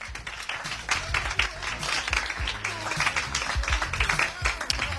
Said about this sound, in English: But for the moment, can we please show our appreciation for Kush Films reaching its 20th year in the film business with a warm round of applause.